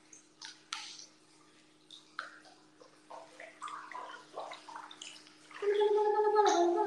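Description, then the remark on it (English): Water sloshes and splashes in a hot spring bath (onsen) with no toys in it, in a series of irregular soft bursts, then grows into a louder, steady gurgling churn near the end over a faint constant hum. “How many toys do you have in the water? None, it's an onsen.”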